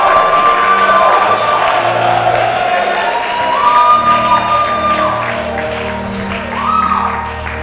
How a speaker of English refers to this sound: Let's shout in agreement for them. You may be shouting for your own son or daughter as well.